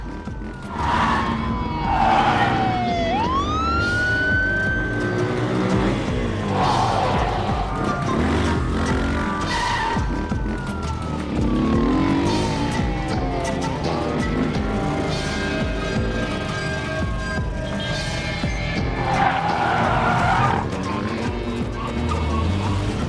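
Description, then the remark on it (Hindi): Several police patrol car sirens wail and sweep up and down over a steady roar of engines and traffic, loud throughout, as the patrol cars chase a suspect's car heading south on a highway. “गश्त की तमाम गाड़ियां, मुजरिम की गाड़ी मेरे सामने है। वो हाईवे पर जुनूब की जानिब जा रही है, हम उसका पीछा कर रहे हैं।”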